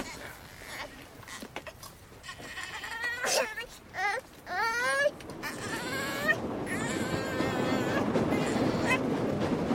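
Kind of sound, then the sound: vehicle, train rolling on rails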